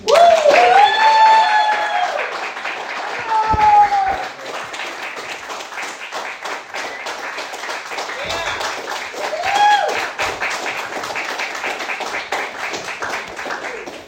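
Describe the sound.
An audience at a meeting applauds a speaker steadily for about fourteen seconds, dense clapping throughout, with a few voices whooping and cheering above it near the start and again midway.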